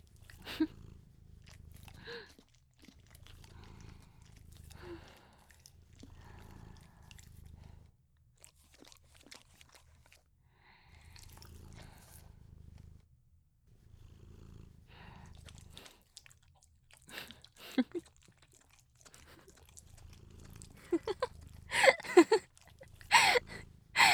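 A cat licks and nibbles at an ear, with wet, crunchy chewing and slurping sounds in irregular bursts, soft purring underneath, growing louder and busier toward the end. No one speaks.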